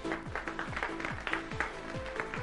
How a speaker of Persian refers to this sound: خب پس به این ترتیب کدوم گروه؟ ستاره. گروه ستاره. تشویق.